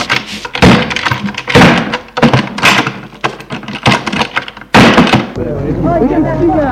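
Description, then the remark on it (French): A man lets go of a gun, which falls and hits the floor with a sharp, heavy thunk, amid a run of loud knocking thuds and clatter, followed by murmuring voices. “Charles lâche l'arme qui tombe à terre.”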